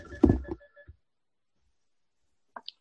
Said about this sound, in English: My phone's ringing. Give me 1 second. Excuse me 1 second.